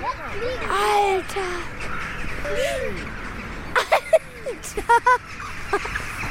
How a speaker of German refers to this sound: Wir stehen gerade auf der Brücke über den Main und hier kann man richtig gut sehen, wie die Krähen sich auf der Stromleitung sammeln. Ja, da sieht man eigentlich nur ganz viele schwarze Punkte.